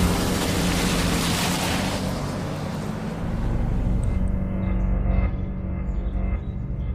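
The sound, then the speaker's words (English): A Humvee military vehicle heading this way, its engine rumbling steadily with a deep, growling low end and broad road noise. The hissing upper tones fade partway through while the rumble continues, and no one speaks. “We got a Humvee heading this way.”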